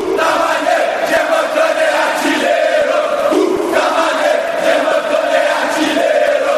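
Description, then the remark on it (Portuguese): A large crowd of Vasco da Gama football fans sings the club's chant together, loud and continuous, with voices blending into a steady melodic roar that rises and falls rhythmically throughout. “Vamos todos cantar de é o Vascão, o machão da colina histórica.”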